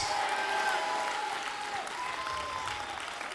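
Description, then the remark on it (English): An audience in a church claps hands in a dense, steady roar of applause that holds loud for the whole few seconds, with a few sustained voices cheering above the clapping. “Now, if you believe that, you need to clap your hands with all your might, lift your voice up, and shout, yes!”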